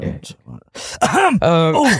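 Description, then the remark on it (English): A few quiet, rough throat noises give way to loud hacking coughs from a person with COVID, with a strained, voiced quality, three or so bursts in quick succession. “That COVID cough.”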